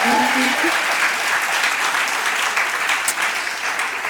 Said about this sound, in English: I was honored when I was invited to introduce poet, educator, force of nature, Nikki Giovanni. Yeah, y'all go ahead and clap for that.